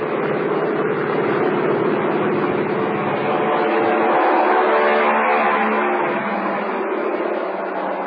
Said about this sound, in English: Now he's standing in front of the plane, whirling his right arm. The pilot revs up his motors. Fly One points down the deck, and the plane is off. Listen.